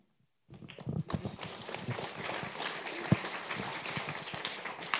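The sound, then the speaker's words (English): Quick, energetic dance steps drum on a hard floor, a dense flurry of stomps and taps running steadily for several seconds after a brief silence, moderately loud. “if cows and horses don't work out, then dancing's in your future.”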